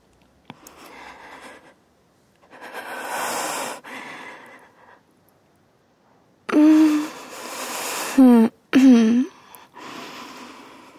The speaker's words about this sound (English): breathing. That's what we're doing, right?